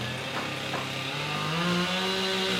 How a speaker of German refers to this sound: Dutzende Mitarbeiter des Katastrophenschutzes arbeiten auf der Maria-Entschlafenskathedrale, hämmern und sägen.